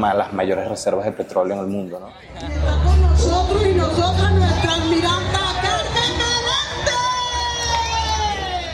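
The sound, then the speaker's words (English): A large government rally crowd of Nicolás Maduro supporters in Venezuela, demanding his release, chanting and shouting together, voices rising in loud overlapping waves with whoops and yells, over a steady low rumble and brief talk at the start. “There are still regular government rallies for Nicolás Maduro, with supporters demanding his release.”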